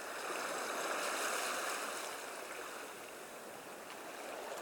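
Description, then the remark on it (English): Sea water laps and washes steadily, a continuous rush of moving water that eases slightly midway, with no voices. “The sea is cold to me. It pulls me down and won't let go.”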